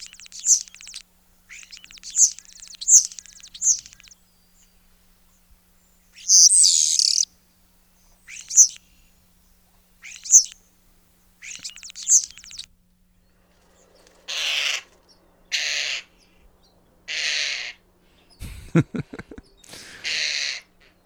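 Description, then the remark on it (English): A European starling, an invasive species not native to North America, sings a varied run of squeaky chirps, whistles and buzzy, rasping bursts in irregular phrases, clear, with quiet pauses and no other sounds around it. “Next up, we have European starlings, an invasive species, not native to North America, but still a lovely, you know, part of the landscape here.”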